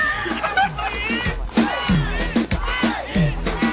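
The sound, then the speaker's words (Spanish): A loud crowd roars and shouts over one another, a dense wall of overlapping voices with excited yells and bursts of chatter that stays strong throughout. “Voy a tener que cortar porque esa bulla es demasiado.”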